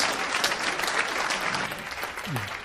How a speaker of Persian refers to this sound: مرسی مرسی از توضیحاتی که دادین. تشویقش میکنین. مرسی.